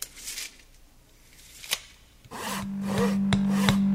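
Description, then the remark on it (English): Rasping hand-saw strokes into a piece of wood, then a single sharp hammer strike on a nail, followed by a bag of nails rattling as it is shaken over the steady low drone of a drill press motor, with a few crisp knocks. “So that's hand sawing into a piece of wood, hammering a nail, and shaking a bag of nails now, and also the drone of a drill press motor.”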